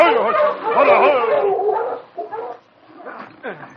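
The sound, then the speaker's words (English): A pack of sled dogs barks and yips excitedly after the sled team halts on snow in front of headquarters in the town of Dawson, a dense, loud chorus of overlapping howls and yelps, thinning into a few scattered barks and whines toward the end. “You take the dogs around the back?”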